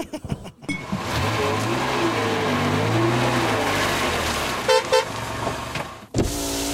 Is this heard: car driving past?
yes